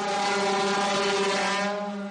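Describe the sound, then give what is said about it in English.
A firehouse siren in Manhasset, Long Island, sounding on the anniversary of 9/11, holds a loud, steady wail at a constant pitch, its rich, buzzy tone sustained throughout without speech, easing slightly at the very end. Such sirens announce fires and sound across Long Island at 12 noon every day. “the firehouse sirens, which, in addition to announcing fires, sound across Long Island at 12 noon every day”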